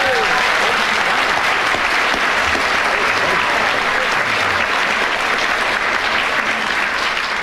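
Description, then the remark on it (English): Steady, dense audience applause fills the whole stretch, many hands clapping at once with a loud, even roar and no pauses. “The subject back to you, applause, with 12 seconds starting from now.”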